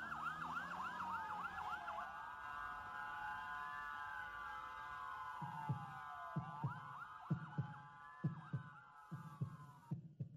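A loud ambulance siren wails and yelps throughout, and halfway in a deep, steady heartbeat begins thumping in regular double beats beneath it.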